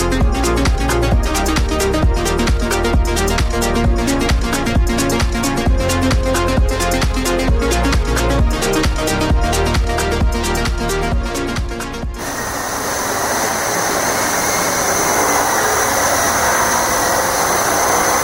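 After a stretch of rhythmic music, a quadcopter drone hovers in place outdoors during a drone demonstration: a steady, high-pitched motor whine over a broad rushing hiss of spinning rotors, with no talking.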